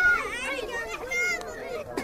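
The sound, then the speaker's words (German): Several children shout and chatter at once in high, lively voices as they play in the dirt at the crowded Samos refugee camp, among tents and huts of wooden slats and plastic sheeting, with overlapping calls. “Das Flüchtlingslager Samos. Kinder spielen im Dreck.”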